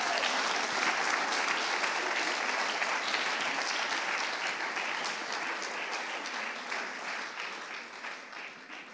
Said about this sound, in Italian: Quindi, mentre io porto sulle G-O, voi fate un bel applauso ai ragazzi che entrano.